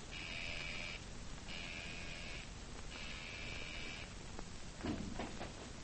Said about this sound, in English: I didn't hear the buzzer at first. Yes, I noticed that, Mr. Truex. My finger almost went to sleep on the buzzer.